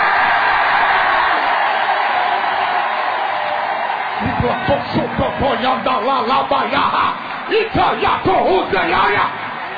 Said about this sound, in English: I want everybody in the building to raise your voice, and I want you to scream yes until your body trembles. Would you do it? Yes!